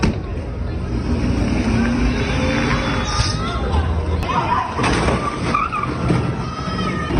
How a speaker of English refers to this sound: Here's the moment that he stole the tow truck and tried to drive off while crashing into parked cars.